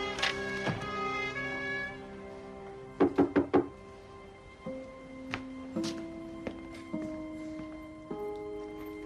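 Four quick, firm knocks on a door ring out, set against a sustained musical score that continues with soft plucked notes afterward.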